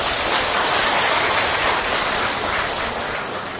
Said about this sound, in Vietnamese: Xin cho một tràng vỗ tay chung.